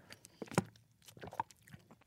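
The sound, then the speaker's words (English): Wet, crunchy chewing of a dry, tough sausage, with a run of irregular bites and smacking mouth sounds. One loud crunch stands out early, then softer chomps continue. “That's me eating sausage. It sounds so dry.”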